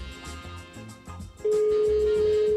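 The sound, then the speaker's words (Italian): A telephone line tone from a call placed to Tenerife, Spain, cuts in partway through, a steady, loud single pitch that holds to the end, following a softer rhythmic pulsing background; no one speaks. “Squilla il telefono.”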